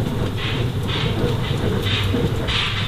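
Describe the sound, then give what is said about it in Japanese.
A steady rumble of a train carriage rolling along rails on a snowy day, with dense low-end roar and faint periodic hissing surges in the higher range, continuous and fairly loud throughout. “この列車の6号車と7号車の間のデッキには降り口がございません。”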